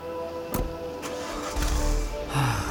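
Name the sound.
car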